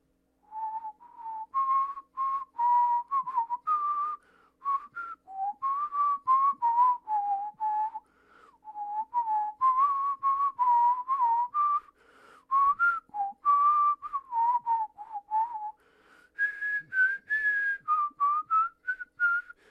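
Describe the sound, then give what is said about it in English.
A person with a cold sore whistles alone the tune the pirate whistles in Treasure Island, a clear melody of short bouncing notes and phrases with brief pauses, carrying on steadily for about twenty seconds. “And one of the pirates, here I'm going to whistle what the pirate was whistling in Treasure Island.”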